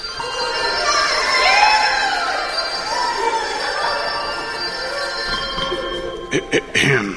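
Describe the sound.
A rowdy party crowd shouts and cheers nonstop, with overlapping voices and high whoops rising above the din. A few sharp claps or knocks break through near the end.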